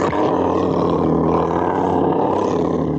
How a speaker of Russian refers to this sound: Лев.